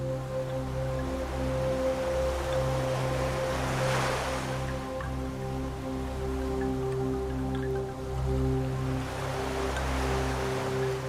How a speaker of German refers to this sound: Nun schaukeln deine drei Muscheln mit den anderen sanft im Wind. Gemeinsam mit dem Meeresrauschen spielen sie eine zarte Melodie.